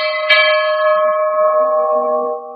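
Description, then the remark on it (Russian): A single hard strike on a bell rings out loud, its bright metallic overtones sustaining steadily and slowly fading over a couple of seconds. No voices are heard. “Капитану нравится, когда колокол подает голос. И Генчик ударил.”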